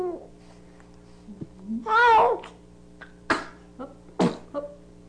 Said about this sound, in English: Two sneezes. Little frown with the call before it. These are accompanied with frowns, but they really are noises. They're not crying.